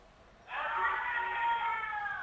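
A group of children let out one long, loud, sustained shout together as a greeting to Radio Galileo during a live phone link, starting abruptly after a brief quiet moment and holding a high, strained pitch until the end.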